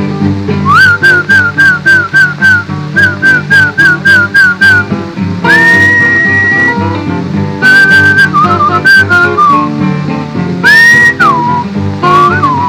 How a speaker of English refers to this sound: You was a horse. I must whistle for you. Something like this.